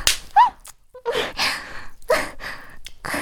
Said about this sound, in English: Daddy, why did you slap my ass?